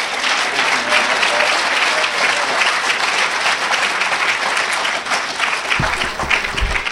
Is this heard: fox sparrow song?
no